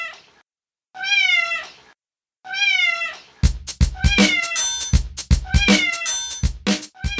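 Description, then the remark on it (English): A cat just let into an office gives two drawn-out, wavering meows with pauses between, then a louder, busier stretch of choppy, overlapping cries and sharp thumps follows. No one speaks. “Now that I've let her in, she's going to climb on everything in my office and knock things down.”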